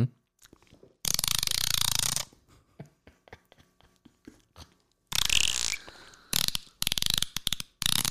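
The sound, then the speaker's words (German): A person mimics a dolphin with loud, raspy squealing bursts and a run of rapid, ratchet-like clicks in between, ending in several harsh, broken chirps. No speech is heard. “Brutal, das hört sich echt an wie ein Delfin.”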